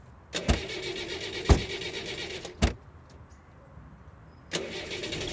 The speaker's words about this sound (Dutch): Ze stappen in de auto en ze rijden naar het strand.